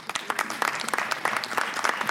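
Audience applause: a dense, steady patter of many hands clapping, bright and noisy across the whole clip, with no voices on top.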